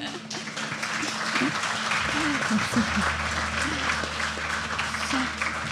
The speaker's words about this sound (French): On peut t'applaudir aussi. Merci.